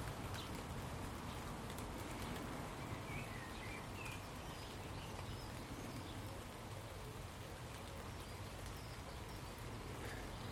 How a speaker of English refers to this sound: And that beautiful, refreshing rain. The stuff that's managing to get to my head and face through the canopy of my tree, which now that's in full leaf, is acting like a big umbrella.